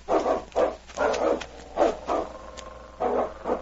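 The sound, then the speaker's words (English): A dog barks repeatedly after finding a mother wolf at a cave in a creek bank, about seven sharp barks in uneven bursts with brief pauses, clear, with no one talking. “They had covered over a mile when they suddenly heard King up ahead”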